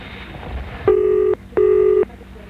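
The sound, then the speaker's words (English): Two steady telephone keypad tones, each lasting about half a second with a brief pause between them, sounding clear over a low, murmuring background, in a radio advert for Boyneside Radio Advertising. “All it takes is a simple phone call.”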